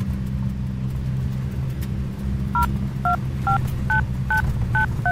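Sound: mobile phone dialing tones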